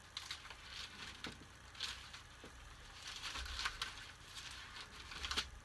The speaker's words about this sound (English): Boy, I love them pages turning. Mark chapter 13. I'm glad I can wet my finger.